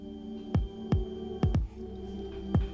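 A heartbeat sent from a smartwatch plays as soft, deep thumps, roughly one or two every half second or so and slightly uneven, over a steady low electronic hum. No one speaks.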